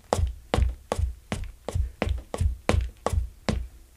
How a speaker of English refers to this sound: so we just did stairs on the same piece of wood, and that would go something like this. I don't know if you want to put the mic down there. I'm walking along. Now we go up the stairs.